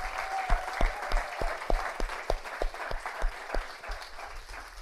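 An audience applauds steadily for several seconds after a story is told, a dense wash of clapping with a few sharper claps standing out in a loose, regular beat, moderately loud.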